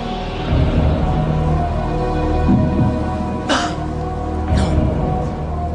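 A sharp cough-like burst, disguising a blurted 'no' while a quiz contestant weighs his answer choice, rises from a low steady background hum, followed a moment later by a second, softer burst.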